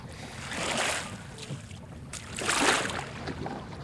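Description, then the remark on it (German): Paddles sweep through water in two broad splashing strokes as a small boat is paddled toward a landing spot between two rocks on an island, with a gentle watery wash and light wind between them; moderately loud, no voices. “Die drei Detektive paddelten ein Stück weiter, bis sie eine geeignete Stelle zwischen zwei Felsen fanden und verließen das Boot.”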